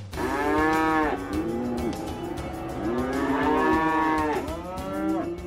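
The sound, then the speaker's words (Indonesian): Several cows moo loudly in overlapping, drawn-out calls, one low bellow following another with barely a pause, with no talking. “Dan mereka mengatakan kepada para petani bahwa sapi-sapi yang bahagia akan menghasilkan lebih banyak susu, dan ini pastilah akan membuat petani senang.”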